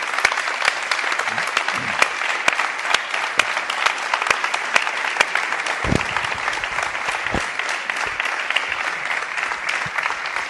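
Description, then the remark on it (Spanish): Enthusiastic applause from an audience, a dense, steady clatter of many hands clapping continuously for about ten seconds, fairly loud, with a few sharper claps standing out. “Señor, yo creo que merece un aplauso enfervorecido.”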